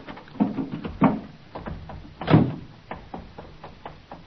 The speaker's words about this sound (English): I opened the door of the car.